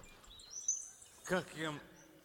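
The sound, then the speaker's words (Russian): Faint birds chirp in a few short high tweets over quiet background noise during a passing rain shower, followed by a brief burst of a human voice. “Всегда помните свои напевы. Ой, дождь пошел, птички, слышите, дождь пошел и прошел.”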